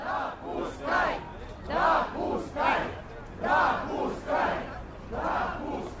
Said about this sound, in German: Eine Menschenmenge steht vor dem Moskauer Rathaus. Einige klopfen an die schwere Tür des Gebäudes. Die Menge skandiert Zulassen und Veränderungen.